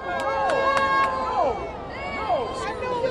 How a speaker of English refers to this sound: Then U.S. Senator Cory Booker was introduced, and many in the crowd booed.